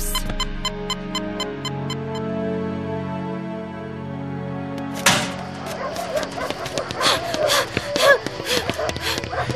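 Dogs bark and snarl in a frantic, overlapping, loud burst that starts midway, following a sustained droning tone that fills the first half.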